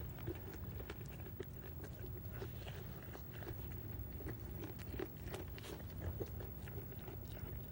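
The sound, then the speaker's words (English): An animal being hand-fed carrots crunches and chews them steadily, with repeated crisp bites and grinding over a low, continuous background rumble. “Would you like some carrots, William?”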